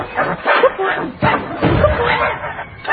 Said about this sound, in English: Wait! Maybe he wants to play fetch. Nice mechanical doggy. Good dog. Good boy, want to play?